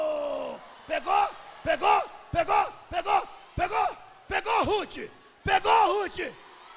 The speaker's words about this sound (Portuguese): Aí tu grita.